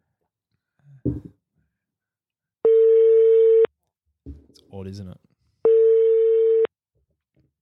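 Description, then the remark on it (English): A telephone ringing tone sounds twice over the line as an outgoing call is placed, each a steady, buzzy electronic beep lasting about a second. A short spoken remark and some breathing fall in the gap between them. “He wasn't ringing like that.”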